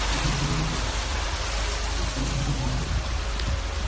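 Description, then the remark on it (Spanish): Heavy rain pours down steadily in Melilla in a dense, unbroken hiss, with a faint low rumble underneath and no voices; the rain has fallen all morning and is flooding the central streets. “Allí ha llovido durante toda la mañana con muchísima fuerza. Una lluvia que sigue a esta hora y que está provocando inundaciones en las calles del centro.”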